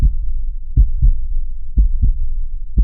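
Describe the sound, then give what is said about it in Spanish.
A steady human heartbeat, deep muffled lub-dub thumps in pairs at a slow, even pace, with a low rumbling background and no voices. “Lo que sabemos es que tiene un número finito de latidos.”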